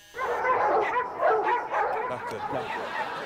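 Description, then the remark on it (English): Several dogs bark and yip at once in a dense, overlapping chorus, loud, with a few whimpers mixed in and no pause for the whole stretch. “I've got 5 dogs.”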